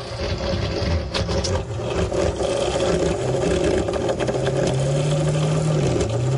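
A loud, continuous mechanical rattle and buzz from a basement bathroom light fixture just switched on in a house, droning steadily like an idling small engine, with a low hum that rises in pitch toward the end.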